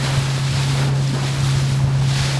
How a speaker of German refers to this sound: Zuerst mit der Fähre, dann mit Nate im Schlauchboot.